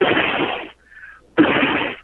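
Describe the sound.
A voice imitates a noise heard earlier in the show, like blowing into a keyboard: two long, breathy, hissing bursts of air separated by a short gap holding a faint, thin whistling tone. No words are spoken.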